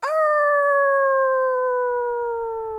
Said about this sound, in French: À ce moment-là, une des louves au pelage doré se lève pour hurler à la lune.